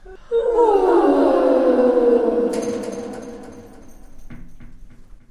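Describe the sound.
A long, loud, drawn-out vocal yawn with a moaning, descending tone that slowly fades, followed by a few faint breathy sounds. A voice performing the eerie, ghostly yawn of the ghost Ewald Eduard in a story.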